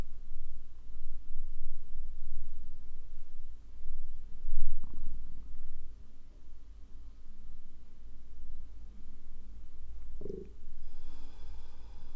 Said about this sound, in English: Maybe the belly doing sounds, movements with your breath.